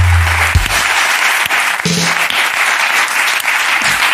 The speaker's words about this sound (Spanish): Pues por eso hoy tenemos el concurso de Adivina al hermano gemelo. ¡Un aplauso!